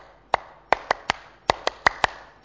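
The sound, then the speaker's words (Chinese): Nine sharp hand claps in a rhythmic pattern, demonstrated for listeners to learn as a way of cheering each other on, uneven groupings of quick and spaced claps, crisp and fairly loud with no talking. “留意我点样拍手，一阵學好冇？”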